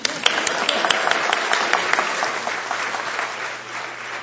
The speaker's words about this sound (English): we'll just give applause for Junkie